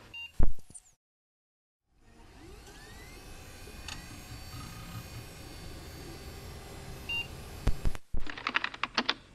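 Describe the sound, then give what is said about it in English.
A steady mechanical drone fills most of the stretch, then gives way to a quick burst of clattering typing on a computer keyboard, many rapid key clicks in an uneven rhythm. “It would help if your keyboard didn't have an entire pack of digestive crumbs wedged between the keys.”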